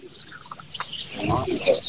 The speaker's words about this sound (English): That's shore birds and stuff I'm hearing in the background? Yeah, yeah, shore birds and a black belly whistling ducks. Whistling ducks and phalaropes. Black belly whistling ducks.